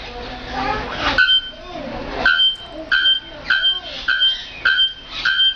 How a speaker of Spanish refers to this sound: Pero antes quiero mostraros el origen de esta inspiración con el sonido que produce un pájaro campana.